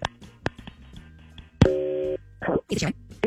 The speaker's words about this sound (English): Let's make the phone call on War of the Roses and see who she chooses for, like, some sort of a couple's adventure. Then afterward, we'll talk to Jonathan Fogel. From Fogel Family Law, next on KDWB, but let's make that phone call.